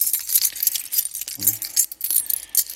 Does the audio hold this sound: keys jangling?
yes